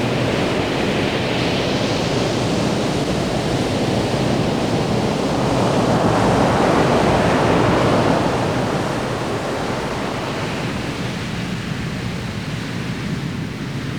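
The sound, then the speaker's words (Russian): Steady ocean surf rolls and washes continuously, a broad hissing roar that swells gently around the middle and eases off again, with no voices present. “Сейчас, под шум океанского прибоя, займите удобное расслабленное положение.”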